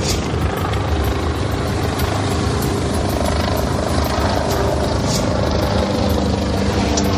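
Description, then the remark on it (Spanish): Steady, loud helicopter rotor noise fills the whole stretch, a dense low thudding drone with engine whine, as helicopters, some very large and others smaller, fly in and out of a valley, with no talking. “Es el sonido de los helicópteros que salen y entran del valle en el que estamos intentando entrar nosotros.”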